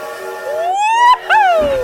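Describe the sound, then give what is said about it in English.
A train whistle sound effect, played on a sports radio station for the Trubisky train bit, blows two blasts, the first sliding upward in pitch and the second bending back down, loud with a brief gap between them. “This is the DART train that's coming in.”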